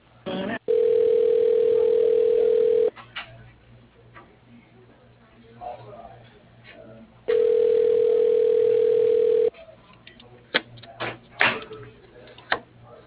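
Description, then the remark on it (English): Two long, steady telephone transfer tones, each a flat mid-pitched hum lasting about two seconds, separated by a few seconds of crackly line noise and faint clicks, as an automated phone system transfers a call to a luxury RV dealership. “Please hold while your call is being transferred to...”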